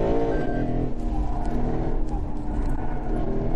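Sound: V8 engine revving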